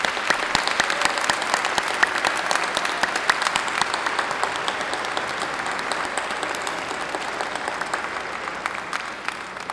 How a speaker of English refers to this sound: So let's have a round of applause for your parents, family members, friends, and all of those who supported you.